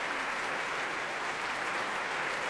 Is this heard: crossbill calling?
no